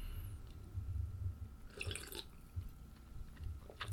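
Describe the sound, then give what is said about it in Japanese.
Wet sipping and swallowing sounds from a fizzy alcoholic drink, with a brief burst of bright crackly fizz in the middle and soft low gulps throughout; no one speaks. “飲む時の音が汚くてマジで申し訳ない。”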